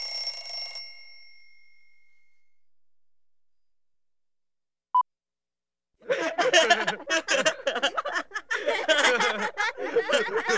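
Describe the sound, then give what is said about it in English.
Clocks ring together in a loud, dense, jangling clatter that runs without pause. Before it come a short chime that fades away, a stretch of quiet, and a single sharp click. “Five, clocks.”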